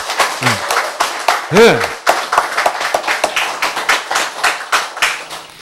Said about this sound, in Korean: 자, 이때 박수를 칩시다. 예.